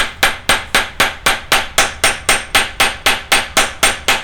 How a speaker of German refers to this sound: hat ein Sensenblatt genommen und legt es auf einen kniehohen Holzklotz mit zwei Metallschrauben, stellt sich einen Stuhl daneben und schwingt den Dengelhammer.